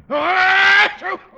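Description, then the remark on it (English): An exaggerated, theatrical sneeze by a voice: a loud, drawn-out wailing 'aah' held for nearly a second, then a shorter voiced burst to finish it. “Valley high and gesundheit.”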